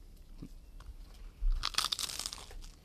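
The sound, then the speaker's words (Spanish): A crisp bite into a crunchy pincho with mayonnaise, followed by a burst of brittle crackling and crumbling for about a second, with no voices. “Ahí cruje. Ya veis que es crujiente, ¿eh?”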